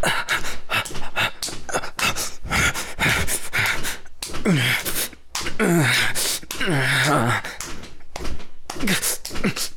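A close, loud run of sharp breathy gasps and panting breaths, some breaking into short voiced moans, coming in quick uneven bursts with no words spoken.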